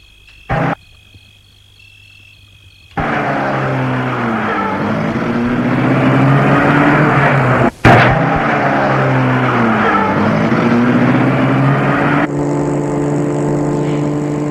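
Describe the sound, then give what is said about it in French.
After a quiet hum and a single click, a man starts a car, its engine abruptly roaring to life and running loud, revs rising and falling as it pulls away. No one speaks. “Il met à côté de lui le petit dans un coussin et met la voiture en route.”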